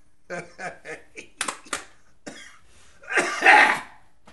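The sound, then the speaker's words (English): A series of short, sharp coughs, several quick bursts followed by a longer, harsher cough near the end, with no talking. “Better to cough now than during the rumble, right?”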